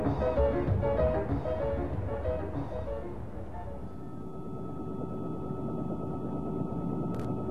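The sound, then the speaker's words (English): The Daily Planet's helicopter engine drones steadily and loudly throughout, a continuous mechanical roar with a busier, fuller stretch at the start before settling into an even hum, ending with a brief click. “It was useless to come up here on the Daily Planet's chopper to look for him.”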